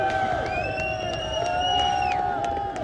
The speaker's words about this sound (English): Getting another cheer.